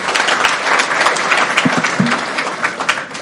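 An audience claps their hands in steady, dense applause in tribute to a participant for his performance the day before, a continuous crackle of many overlapping claps at a fairly loud, even level for a few seconds, with no one speaking over it.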